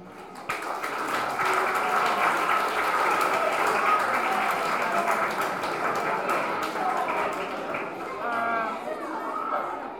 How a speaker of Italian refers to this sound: E allora ci teniamo l'applauso, speriamo,